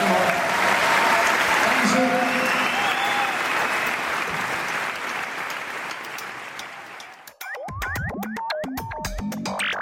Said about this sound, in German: Ja, erstmal herzlich willkommen. Erstmal mal kurz klatschen, dann sind wir auch ein bisschen lockerer. Jetzt einmal.